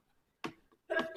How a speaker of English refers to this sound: Bless you.